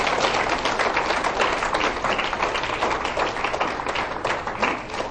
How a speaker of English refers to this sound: I want us to stand to our feet here this morning. If you believe that Jesus is that solid rock and that sure foundation, I want you to clap your hands for Jesus here this morning.